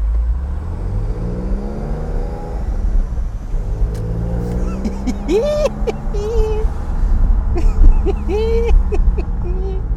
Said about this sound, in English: Oh, that is an Audi R6 you just heard drive by.